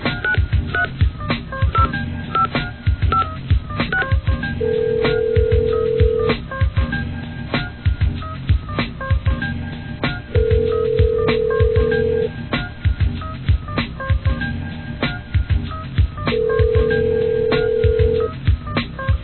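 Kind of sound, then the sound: signal or alarm, telephone keypad dialing tones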